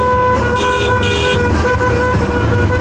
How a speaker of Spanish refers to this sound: vamos con la bocina, nos vamos poniendo.